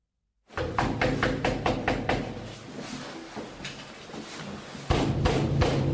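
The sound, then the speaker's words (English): Loud, rapid pounding on a door by officers from the UK's National Crime Agency during a coordinated police raid, a rhythmic series of heavy thuds that eases slightly midway and then returns with renewed force, with no voices. “That's the noise, the very loud noise of officers from the UK's National Crime Agency.”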